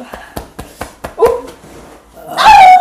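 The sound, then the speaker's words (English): A person does an impression of a werewolf, giving a quick series of short, sharp bark-like yips followed by a louder, drawn-out howling whine, with no other talk. “that's …'s impression of a werewolf”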